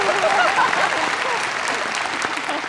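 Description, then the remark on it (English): A crowd applauds steadily, a dense, even wash of many hands clapping at once that stays loud throughout, with faint voices or cheers mixed into the noise near the start. “I just want you to know, I'm hoping I can say something that you'll applaud like that.”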